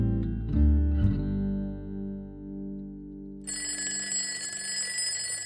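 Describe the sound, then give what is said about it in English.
A soft, sustained chime fades out, then the bright, rattling bell of an alarm clock starts ringing continuously and loudly, with no talking. “It seemed only minutes since Mr. Mouse had gone to bed before his alarm was sounding.”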